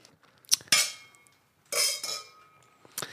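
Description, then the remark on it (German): Champagne glasses clink together several times in a toast, bright ringing taps at about 0.5, 0.8, 1.8 and 3 seconds with a shimmering tail after each, fairly clear, no talking, in a shared flat. “weil ich habe so richtig, richtig Bock auf Champagner gerade. Prost, Matthias. Zum Wohl.”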